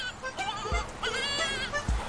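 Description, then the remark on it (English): A screaming goat sound effect: a goat lets out a loud, wavering scream-like bleat, harsh and nasal with quivering tones, lasting about two seconds with a couple of low thumps underneath. “In case you needed an emergency goat.”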